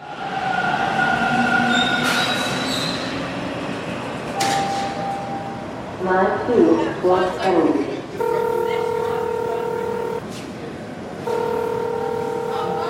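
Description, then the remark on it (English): A subway train rumbles through Dufferin Station, an echoing underground station on the Toronto subway, with muffled voices in the background and a sustained electronic tone sounding twice near the end. “I'm downstairs in Dufferin Station right now, just waiting for my train.”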